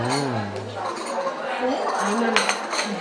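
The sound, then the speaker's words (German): Cups and dishes of chai clink as they are served and set down on a table, with a few bright ceramic knocks against a steady murmur of voices in the background. “Oh, da kommt unser Chai.”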